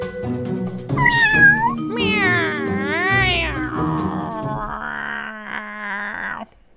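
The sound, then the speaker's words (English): A person imitates a yowling cat with drawn-out, wavering howls that rise and fall in pitch, loud, running nearly seven seconds without a break. “I'm like a dying cat.”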